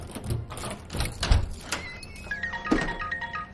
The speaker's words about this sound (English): She places it down and unlocks her door.